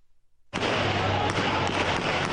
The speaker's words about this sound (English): The sound of gunshots and explosions today in central Bangkok, where anti-government protesters have been camped out for months.